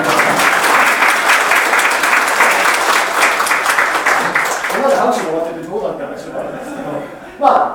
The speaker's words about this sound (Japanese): はい、きっちりと。これ拍手です。